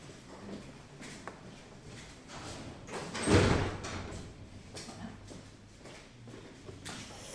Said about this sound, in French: Je vais fermer la porte parce que...